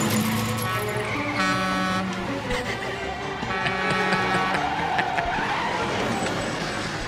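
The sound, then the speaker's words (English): A car brakes hard and its tires skid with a loud, sustained squeal over a busy traffic roar, the screech shifting in pitch for several seconds. “Normally, you would not be going 65 down the wrong way of a one-way street. Apply the brakes.”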